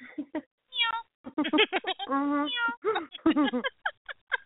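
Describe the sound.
A person's voice imitates a cat, making a few short meows and one long drawn-out meow with wavering pitch, fairly loud, with no other sounds around it.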